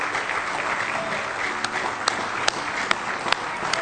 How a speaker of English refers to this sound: Give the Lord a good hand clap of praise if you love him this morning.